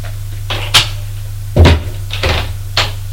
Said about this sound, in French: Elle l'a fermé la porte.